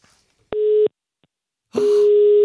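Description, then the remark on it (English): A steady electronic ringback tone of an outgoing phone call to a number in Sweden sounds twice: a short burst, a pause of about a second, then a longer tone that runs to the end. Clear, with no voices. “Ringing.”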